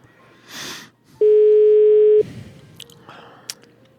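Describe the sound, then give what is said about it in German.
A single loud, steady telephone ringing tone sounds for about a second and then stops unanswered, leaving only faint room noise and a few small clicks. “Man muss auch manchmal beharrlich bleiben beim Telefonieren.”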